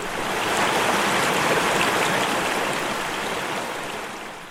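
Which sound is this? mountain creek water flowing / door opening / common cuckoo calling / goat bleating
mountain creek water flowing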